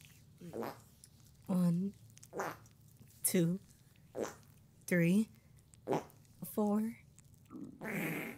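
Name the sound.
loud fart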